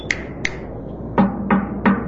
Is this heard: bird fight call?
no